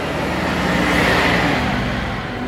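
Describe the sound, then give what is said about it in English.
A heavy garbage (bin) truck rumbles as it drives past, its deep engine drone and broad roar of road noise swelling slightly as it passes, steady and loud throughout with no voices. “So there's a bin truck going past. It's going to be noisy.”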